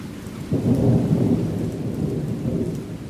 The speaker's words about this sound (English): It's raining, it's pouring. This weather is great.